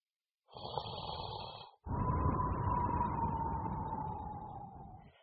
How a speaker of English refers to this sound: He is sleeping. He is snoring loudly. He is very loud.